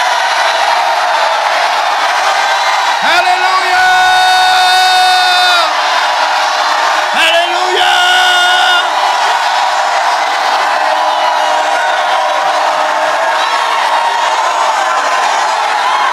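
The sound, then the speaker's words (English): An audience shouts together in a loud, sustained roar of voices, with individual yells and whoops rising above the crowd for the full length. “Anybody know what it say ahead of that? Shout. You got it. Shout, for the walls of contentment are falling, the doors and gates of plenty are being opened.”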